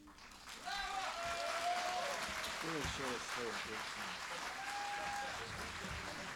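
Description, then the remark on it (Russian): An audience applauds loudly and steadily, a dense wash of clapping that swells after the first half-second and holds for several seconds, with scattered voices and a few tonal calls mixed in. “Мы ваши аплодисменты рассматриваем как то, что все-таки действительно что-то налаживается.”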